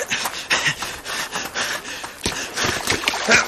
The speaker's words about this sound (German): der Ball rollt ins Wasser. Oh nein.